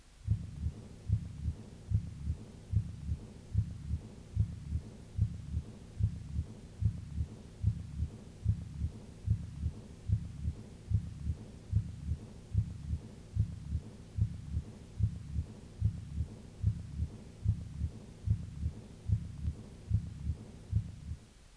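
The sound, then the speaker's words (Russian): A steady heartbeat through a stethoscope at a moderate pace, with combined systolic and diastolic murmurs heard at the second and fifth (Botkin-Erb) auscultation points; each beat is accompanied by a whooshing murmur that partly fills the gaps between heart sounds, continuing evenly for the whole stretch without any talking. “Сочетание систолического и диастолического шумов во второй и пятой точках аускультации.”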